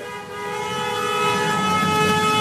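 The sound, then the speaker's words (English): Car horns blare nonstop on a street in the La Marais neighborhood, where traffic is backed up for blocks: several held tones layered into one loud, steady honk that swells slightly and never breaks, with no voices. “How does that honking make you feel?”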